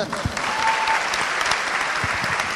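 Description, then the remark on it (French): A crowd applauds steadily, a dense wash of clapping sustained throughout at a fairly loud level, with no one speaking over it. “Peut l'applaudir.”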